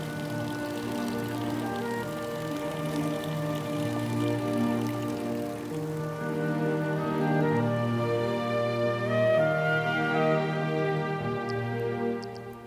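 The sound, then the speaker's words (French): Gas bubbles of volcanic origin rise and fizz steadily through natural mineral spring water, a continuous gurgling and trickling with no voices, holding an even level for the whole stretch. “Ah oui, puis il y a des bulles, bien sûr, qui ressortent. Il y a des bulles un peu partout.”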